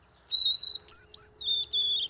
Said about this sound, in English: The serenade of a male white-throated sparrow prompts a response in a female sparrow's brain that resembles that of humans listening to their favorite music.